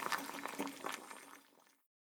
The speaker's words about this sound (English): Then, put the rice and spices in the saucepan. I can hear the water in the saucepan. It sounds noisy.